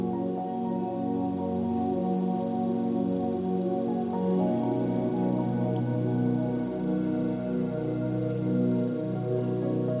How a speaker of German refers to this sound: Du fühlst die sanfte Brise auf deiner Haut und lauschst auf das leise Plätschern des Wassers.